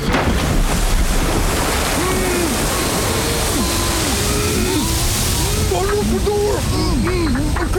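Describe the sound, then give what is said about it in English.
Loud, steady churning of water surges around an upside-down car that has gone underwater, with bubbly, warbling gurgles rising and falling throughout as it floods. “We're We're upside down! Oh, Jesus, what's going on? Kick up the water! Hold your breath!”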